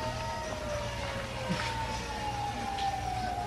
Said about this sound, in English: What is that? What's what? Sounds like sirens. Yeah, I guess so. Well, you don't usually hear sirens in the countryside. Sounds like a lot of them. Must be a fire someplace. It sounds like they're headed this way.